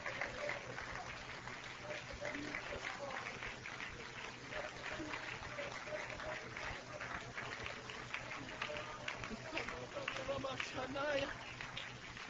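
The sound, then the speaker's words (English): A worshipping audience claps its hands unto the Lord, a dense stream of sharp hand claps running steadily throughout, with a murmur of voices mixed underneath. “Will you clap your hands right now unto the Lord?”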